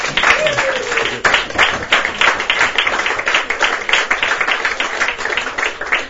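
A crowd applauds steadily for about six seconds, dense overlapping claps forming a loud, even wash of sound with a brief whistle-like tone near the start.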